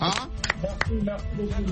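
Applause of a few scattered, sharp handclaps, irregularly spaced, mixed with overlapping voices talking throughout.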